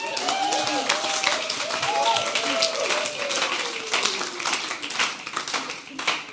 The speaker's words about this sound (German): Einen fetten Applaus